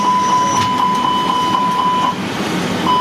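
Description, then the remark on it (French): A steady, loud engine roar in an Airbus A320 flight simulator at Charles de Gaulle airport, as pilots perform a go-around with one engine failed, with a sustained high tone pulsing in rapid, regular beats on top of it. No one speaks. “Oui, ils sont en train de faire une remise de gaz parce que la météo était trop mauvaise.”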